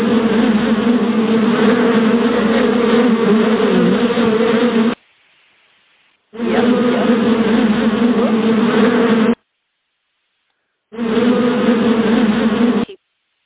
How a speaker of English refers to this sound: The bees buzzing around in my bonnet, here they are.